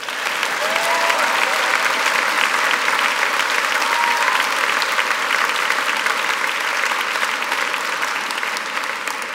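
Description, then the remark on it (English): A large audience at the Sydney Writers' Festival applauds steadily and loudly to welcome author Rachel Cusk to Sydney, a dense wash of clapping that holds at full strength for several seconds with a faint murmur of crowd beneath it. “Rachel, the crowd's gone wild here.”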